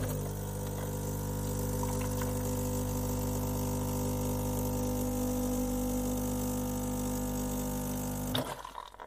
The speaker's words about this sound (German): Ja, hier haben wir das wundervolle Geräusch eines Kaffeevollautomaten gehört, beziehungsweise einer Kaffeemaschine, was so absolut zu meinen Lieblingsgeräuschen gehört, wenn ich mal so drüber nachdenke.